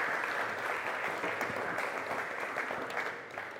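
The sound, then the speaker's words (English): Steady applause from an audience clapping for a group of people as they take their seats, a dense, continuous patter of many hands clapping at an even level throughout, tapering slightly at the very end. “You can take your seats. It's a little, give them a clap.”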